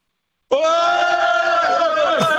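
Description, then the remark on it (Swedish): A loud, sustained cheer from a group of five electricians on the quiz 10 000 på minuten, a single long held shout at a steady high pitch that starts abruptly and holds for about two seconds. “Får vi höra, be dem jubla.”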